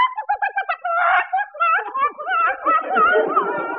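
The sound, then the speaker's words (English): A prize-winning Rhode Island Red chicken inside a box on a train clucks and squawks in a rapid, choppy stream of agitated calls that rise and fall for a few seconds without pause. “That's the actress in there. Who? My prize winning Rhode Island Red.”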